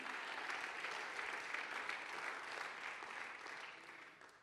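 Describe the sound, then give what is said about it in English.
An audience claps their hands in a dense, sustained burst of applause that holds steady for several seconds before beginning to taper off at the end, with no voices standing out. “You ought to clap your hands if you remember where you were when God found you.”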